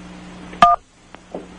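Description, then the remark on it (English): A single short telephone keypad tone as a button is pressed in answer to an automated pizza-ordering phone menu, a bright two-pitched beep lasting a fraction of a second, followed by a couple of faint clicks over a low steady hum. No one speaks. “If that is correct, press 1 for yes, 2 for no.”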